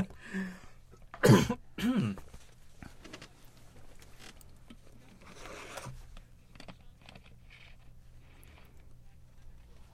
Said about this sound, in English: Actually, yes. I'm coughing. Okay. All of a sudden.